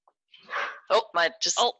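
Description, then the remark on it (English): A dog lets out an excited run of sharp barks, a rough yelp followed by three quick, loud barks in a row, with no talking over them. “My dog go crazy.”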